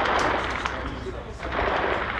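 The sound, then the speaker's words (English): Scattered gunshots crack over a dense, rough wash of background noise, with a few sharper reports standing out; indistinct voices may sit beneath the din. “Gunshots constantly ring out.”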